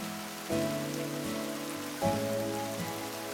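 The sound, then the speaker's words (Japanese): Steady rain falls in a soft, continuous patter on hydrangea leaves and black asphalt pavement with puddles, while gentle sustained musical chords sound twice over the wet hiss. “それは雨しずくが当たるたびにまるで息をするように葉を上下させた。”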